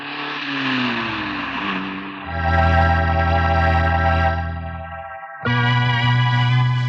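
A car engine hums and shifts pitch as it pulls in and parks in front of a staircase, then settles into a steady, buzzing idle that drops out briefly and resumes. Fairly loud, with no voices.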